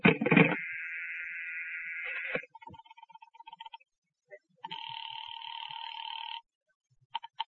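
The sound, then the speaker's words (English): A telephone handset clatters, then a steady dial tone gives way to quick pulsed dialing clicks as someone calls the operator, followed by a two-tone electronic ringback buzz and a few sharp clicks, all clear. “I better call the operator.”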